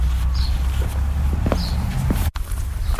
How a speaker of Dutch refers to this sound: We zijn nou even over het kerkhof gelopen en we staan nou bij de toren